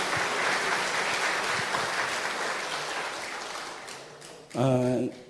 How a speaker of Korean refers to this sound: 여러분 다 너무 귀한데 한번 우리 박수로 우리 한번 격려하고 축복합시다. 할렐루야.